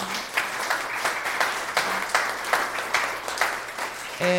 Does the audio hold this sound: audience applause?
yes